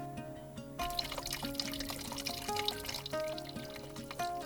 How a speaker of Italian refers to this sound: Una piccola sorgente tra i rovi dona a Meco l'acqua. C'è un secchio lì e quella è buona da bere.